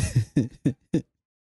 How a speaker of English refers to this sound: I wonder what's in your throat. I know. He's been coughing and choking for like 10 minutes.